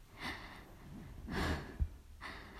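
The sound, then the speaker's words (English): Three quick, airy, excited gasping breaths come one after another, soft, with brief pauses between them and no voices. “Chest rises, falls in quick, excited gasps.”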